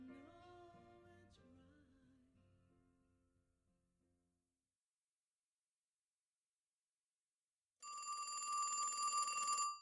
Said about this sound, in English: The next time Steve wakes, it's to the ringing of the phone.